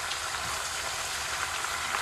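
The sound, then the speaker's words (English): Cabbage sizzles in a hot pan while being constantly stirred, giving a dense, steady crackling hiss that continues without a break, fairly loud, with no one speaking. “But wherever it hits, you can hear it sizzling very loudly.”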